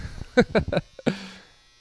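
A washer or dryer doing laundry at a house hums steadily in the background, with a few short, loud rattling bursts in quick succession followed by a brief low buzzing drone.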